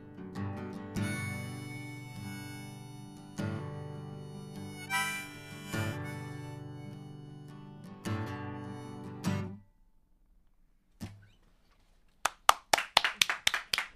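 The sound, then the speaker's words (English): Studio audience applause: after a stretch of sustained band music and a brief pause, a short burst of crisp, evenly spaced claps rings out near the end, loud. “It's nice having the applause in the studio.”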